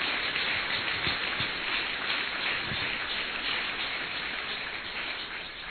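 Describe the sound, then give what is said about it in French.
An audience claps for the people involved in an evangelism campaign in a prison, a dense crackling wash of applause that holds at an even level for several seconds and then eases slightly at the end, with no voices over it. “Et puis également en profiter pour remercier, et je crois que nous pouvons applaudir toutes les personnes qui ont été des acteurs à cette campagne d'évangélisation dans la prison.”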